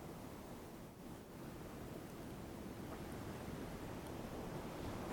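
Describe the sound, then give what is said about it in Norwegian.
Ocean waves roll softly onto a beach, a dense, hissing roar with a brief dip before building again, fully filling the scene, with no voices. “Hør havet. Bølgene som rytmisk kommer og går.”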